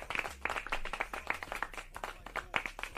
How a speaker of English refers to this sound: Clap it.